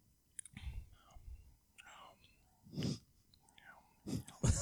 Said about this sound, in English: Really? You're chewing. You gotta breathe in through your mouth. You gotta oxygenate it.